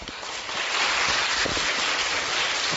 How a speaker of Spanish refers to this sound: Es la primera vez que escucho aplausos tan entusiastas en la presentación de un festival de cine.